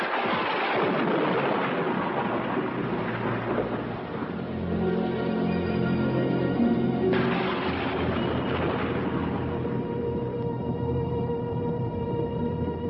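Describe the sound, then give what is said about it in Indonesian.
Heavy rain pours over a forest in a steady, loud hiss while thunder rolls in low, drawn-out rumbles. A few seconds in, a sustained humming tone rises beneath the downpour and holds to the end. “Hujan lebat terus mengguyur hutan itu.”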